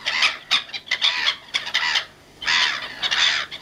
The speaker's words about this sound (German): Ja, das sind Möwen. Ja, richtig. Lachmöwen. Gibt's wirklich.